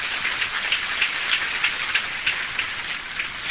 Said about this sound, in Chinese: 在座诸位今天的佛友有这个福报，听师父讲经弘法觉悟，也是他们的功德，再一次的鼓掌。